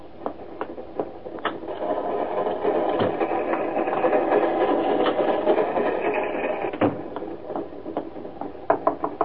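A train rolls steadily along the rails: a continuous rattling rumble broken by sharp, irregular clacks of the wheels over track joints, moderately loud, with no voices.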